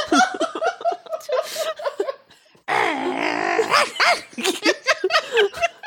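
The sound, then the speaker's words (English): A person imitates a threatening Pomeranian snarling and yapping in a series of loud, raspy growls and barks, mixed with bursts of laughter. “Did he, like, take on the form of, like, a Pomeranian, do you think? Pomeranian? Yes, the threatening Pomeranian.”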